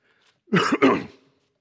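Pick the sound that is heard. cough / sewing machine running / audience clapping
cough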